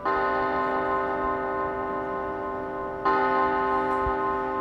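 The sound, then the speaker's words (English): A large monastery bell tolls twice at 8 p.m., marking the start of the night silence, its rich, ringing tone hanging in the air between strikes. The second stroke comes after about three seconds and keeps humming steadily with no voices present. “What they call the night silence begins with the 8 p.m. bell.”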